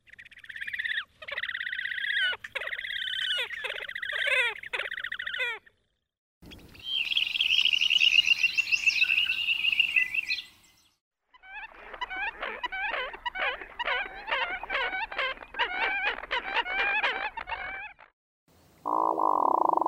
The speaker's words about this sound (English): If you guessed all birds, you are right. The sounds, in order, were from the horned grebe, dunlin, American coot, hooded merganser, tundra swan, and snow goose.